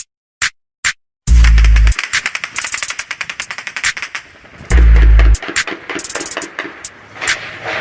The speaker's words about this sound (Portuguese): Cara, isso é vagabundo, cara. É muito tiro. E essa rajada, porra, por isso não vai dar nada.